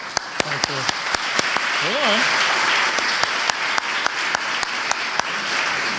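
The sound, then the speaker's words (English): A crowd applauds steadily for the city manager, dense overlapping claps with a few sharper individual ones standing out, and a brief vocal whoop or cheer rising above the clapping. “We're going to give our city manager one more round of applause because she went first.”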